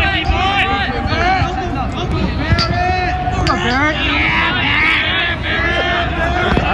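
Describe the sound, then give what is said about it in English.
A kids' team cheers and shouts as a player runs onto the field, a dense, loud, steady roar of overlapping high-pitched children's yells that carries on without a break for the whole stretch. “And this was them cheering him on as he ran onto the field.”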